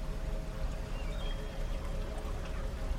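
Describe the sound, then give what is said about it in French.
A river flows steadily a few metres from a listener on its bank, a continuous rushing and gurgling wash of water with no pauses, moderately loud and heard on its own without any voices. “Vous entendez la rivière à quelques mètres de vous.”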